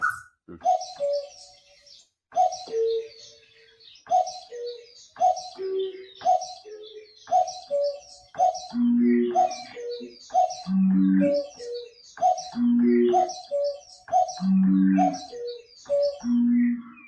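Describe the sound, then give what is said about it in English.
A cuckoo's two-note call repeats in a steady, loop-like rhythm, fairly loud and clear, with deeper hooting notes joining underneath partway through and building into a layered pattern. “It's a cuckoo.”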